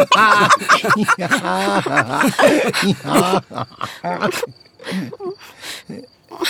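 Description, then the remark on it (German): A voice imitates a lion crying and groaning, with loud, wavering wails and sobbing moans, then quieter whimpers over a faint, steady high chirping in the background. “Aber Löwe, was hast du denn? Warum weinst du?”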